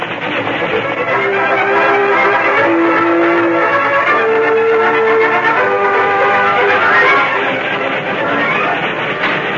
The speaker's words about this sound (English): headed for the canyon opening beyond which he could see the oncoming train